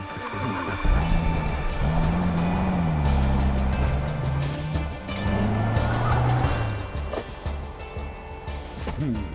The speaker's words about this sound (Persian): ماشین خوبی آقای دار، به هم بگو این چه جور ماشینیه؟ یه سوپرفین از شرکت مکالیستره، فقط همین یکیه.